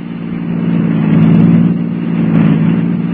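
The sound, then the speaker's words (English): A car engine revs and accelerates steadily during a car chase, a loud, continuous roar with rising and falling intensity, heard alone without any voices. “Swing around that next corner.”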